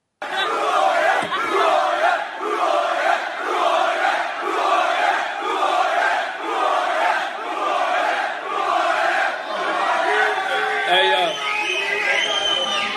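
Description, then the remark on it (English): A large crowd at a live fight event roars and cheers loudly and continuously, the noise swelling in steady rhythmic surges about once a second, like a chant, with no break throughout. “Right, so I'm coming through the crowd tonight, and I do this rather reservedly, but a young lady handed me a piece of paper.”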